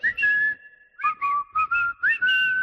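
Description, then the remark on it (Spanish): A football stadium crowd in Córdoba whistles at the Córdoba players at the end of the first half: loud, shrill, overlapping whistle blasts in repeated bursts, about six in under three seconds, with no talking over them. “Se acaba de terminar ahora mismo con una pitada increíble a los jugadores del Córdoba.”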